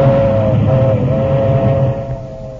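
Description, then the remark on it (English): A milk train rumbles past with a heavy, steady low roar and a faint sustained metallic tone riding above it, the noise easing off slightly toward the end. No one speaks. “Dust the milk train. Let the guy know what time it is.”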